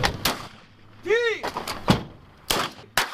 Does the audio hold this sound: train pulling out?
no